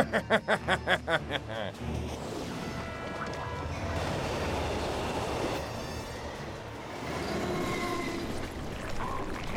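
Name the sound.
train moving on rails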